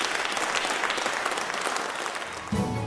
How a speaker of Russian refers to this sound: Мы молча двинулись за кулисы. В этот момент публика разразилась стонами и аплодисментами.